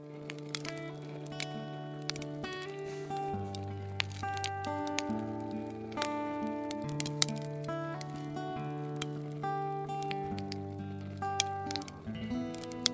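Gentle acoustic guitar plays a steady, chord-based melody while a fire crackles and pops irregularly throughout, both at a moderate, even volume with no voices.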